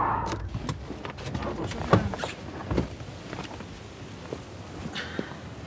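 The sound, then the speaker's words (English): Steady low rumble of a car interior while driving in Shiraz, Iran, with scattered clicks and knocks from inside the cabin and a brief whirring rise near the end. “Please, can we just stop the car?”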